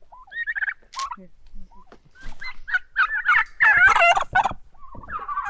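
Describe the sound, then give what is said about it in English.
A bird calls repeatedly and loudly, with warbling, gobble-like bursts that build into a dense flurry midway before trailing off into a final drawn-out call. No one speaks. “They're actually the only bird that I allow to eat out of my hand because they are soft.”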